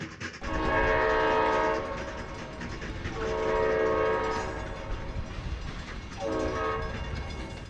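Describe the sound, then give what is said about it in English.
A train rumbles past while its horn sounds three long blasts, each holding steady for a couple of seconds over the continuous low roar and rattle of the cars. “One thing the train is good for is moving mass amounts of anything, long distances in the shortest, flattest, and what used to be the quickest possible way.”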